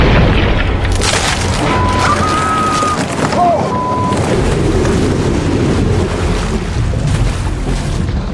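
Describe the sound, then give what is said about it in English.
A great white shark crashing up from below through the bottom of a raft: a heavy crashing boom and churning, splashing water roar, loud and sustained for several seconds, with a few thin whistling tones briefly cutting through early on. “The great white returns from below and crashes right through the bottom of the raft,”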